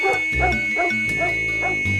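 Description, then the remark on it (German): A dog barks several times in quick succession, fairly loud, a short honking series of woofs sounding in place of a car horn as the horn is pressed, with no talking. “Jetzt decken alle da draußen, hier sitzt ein Hund am Steuer.”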